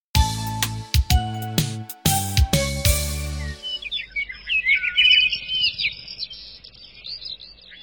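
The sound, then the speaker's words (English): A short bright run of musical notes rings out, then gives way to lively birdsong in the woods as the sun rises: many quick chirps and tweets overlapping, steady for several seconds, with no one talking. “The sun is rising. Birds are singing songs.”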